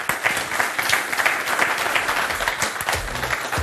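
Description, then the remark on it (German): A room full of people applauds a speaker after her presentation, a dense wash of many hands clapping at once that holds an even, moderately loud level for a few seconds without any voices on top. “Den Applaus haben Sie ja schon genossen, oder? Schaffen vielleicht noch einen.”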